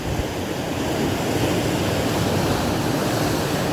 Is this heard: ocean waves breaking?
yes